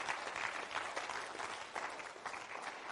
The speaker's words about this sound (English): Come on, give Him a big hand clap of praise.